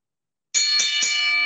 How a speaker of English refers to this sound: Why don't you go ahead and ring the bell? Do that. Let's at least do that, hey?